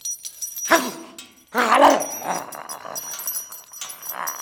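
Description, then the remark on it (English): A pet dog named Senator lets out a short bark, then a longer burst of whining, yelping barks while being told to get down, followed by softer whimpers, with a faint rustle in the background. “Get down from there. Get down, you stupid dog.”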